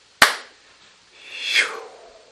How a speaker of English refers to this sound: then we're going to clap, if you wish, in unison to seal the work.